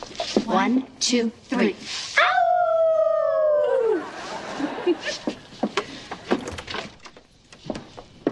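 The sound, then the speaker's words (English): After a few spoken words, women on a girls' night out do a whispered she-wolf howl: one drawn-out wolf-like howl that slides downward for about two seconds, followed by more talking and shuffling noise. “She-wolf howl? It's late. Whisper howl.”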